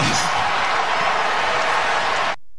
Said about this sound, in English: That is phenomenal. Because first off, how many times have you heard a crowd react to a missed shot at the buzzer by a team that's down 21 like that? Like, that might happen in a sports book when a team is a 20-point underdog, but not the home arena